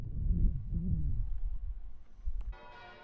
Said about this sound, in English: It's crazy bells. Hopefully they're not putting you off too much.